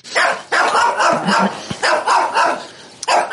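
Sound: dogs barking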